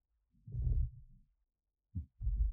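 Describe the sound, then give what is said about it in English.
A deep, guttural burp of seltzer rumbles for nearly a second, followed after a pause by two shorter, low belching bursts. No one speaks. “Your daddy says as he then burps his seltzer up.”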